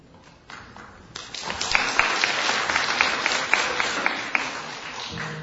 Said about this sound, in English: I'm not used to this clapping. 我不习惯掌声。